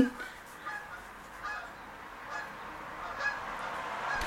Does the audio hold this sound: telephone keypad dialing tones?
no